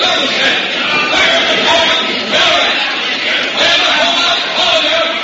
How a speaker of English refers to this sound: The crowd here seems to be breaking up, somewhat roughly herded by the soldiers, and we can hear them.